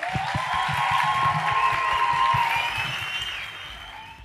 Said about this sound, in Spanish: Y pues nada, muchísimas gracias de verdad, hermoso, muchas gracias al parcero del sonido y a este podcast tan bueno, maravilloso. Nada, un aplauso.